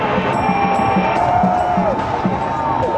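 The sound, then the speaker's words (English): A large crowd roars in a dense, steady wash of noise as the arms of a burning figure lit with flares and red flames collapse, with gliding whistle-like tones rising and falling above it and soft rhythmic thumps underneath. “The arms are still attached, but they've now collapsed, and that's what you heard the crowd reacting to.”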